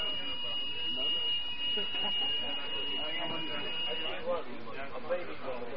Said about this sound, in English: Well, the alarm been stopped, so inshallah I take it there is nothing wrong.